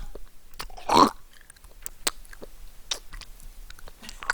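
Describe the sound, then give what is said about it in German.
Close, wet mouth smacking and lip clicks, ASMR-style, scattered irregularly with one louder squishy smack near the start; quiet overall, no talking. “Wenn mir einer ins Ohr schmatzt, so eine Knistertüte aufmacht.”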